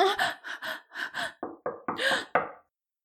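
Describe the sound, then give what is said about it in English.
Breathy gasps and moans give way to four or so sharp, fairly loud knocks on a professor's office door, spaced unevenly, with no talking. “Oh, shit, someone's at the door.”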